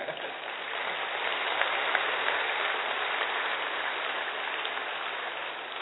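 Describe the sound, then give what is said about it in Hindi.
A large audience at a talk claps continuously, a dense, even wash of applause that holds steady for several seconds with no voices over it. “बीच बीच में ताली बजाने के बहुत सारे कारण हैं।”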